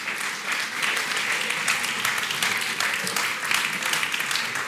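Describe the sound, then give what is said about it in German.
An audience applauds children who took part in a game, steadily for several seconds, a dense, even wash of many hands clapping at constant loudness with no voices standing out. “Gebt doch mal den Kindern einen kräftigen Applaus.”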